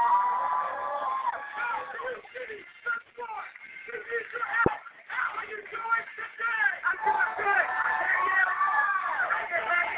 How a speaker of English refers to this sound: As you guys can hear in the background, you got Mustangs. You got these Mustangs cheering for their visiting team. Cheering because they are ahead, and they got cheerleaders as well.